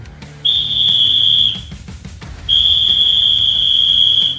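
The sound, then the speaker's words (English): Two long, shrill referee whistle blasts, blown by guest critic referee James Child in a BBC One programme trailer: a piercing one-second tone, a brief pause, then a second, longer steady blast, loud with no talking. “Has he swallowed that whistle?”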